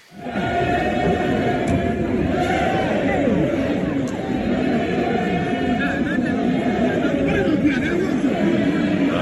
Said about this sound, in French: Des chants, mais surtout des cris, des insultes et des coups aussi qui fusent, pas de foule fanatisée en cause cette fois, mais non, ce sont les députés ghanéens entre eux qui en sont venus aux mains.